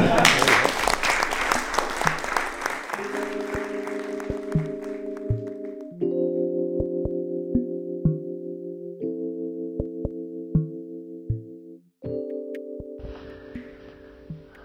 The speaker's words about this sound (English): And so just wanted to give a huge round of applause to everyone for opening up, just being honest, being vulnerable